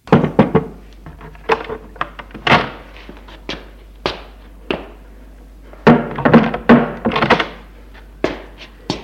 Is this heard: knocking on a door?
yes